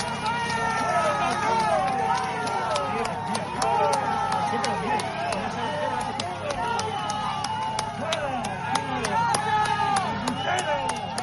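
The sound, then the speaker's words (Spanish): A large crowd shouts "¡Fuera!" and jeers at Mr. Sánchez as he goes to vote at his polling station, many voices overlapping into a loud, rough roar with scattered sharp cries and whistles rising above the din throughout. “Bueno, el hombre se ha hecho fuerte y a pesar de ese griterío, de ese ruido”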